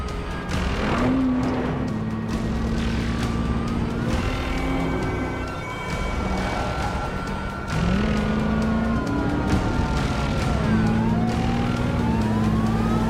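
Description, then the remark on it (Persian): A car engine roars steadily, its pitch sliding up and dropping back as it shifts, with a faint wailing siren-like tone above it and no one talking. “ماشین نیگام بود.”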